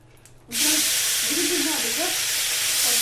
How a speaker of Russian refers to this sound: Вот у нас уже варится картошечка, и начинаем делать пережарку. Наливаем масло, вот, и сначала выкладываем грибы.